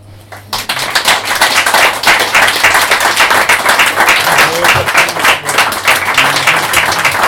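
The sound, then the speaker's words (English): An audience at an open mic night breaks into steady applause after a spoken poem and a brief quiet moment, a dense, sustained patter of many hands clapping that continues at full strength to the end, with a faint low hum underneath. “We'll get another round of applause for everyone on the open mic.”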